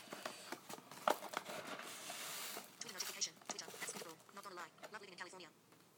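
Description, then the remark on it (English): Birds chirp and tweet faintly in the background while a person talks during cooking, with scattered short clicks and rustles mixed in. “Sorry about the Twitter guys, but it's people tweeting.”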